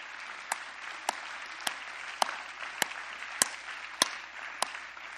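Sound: audience clapping hands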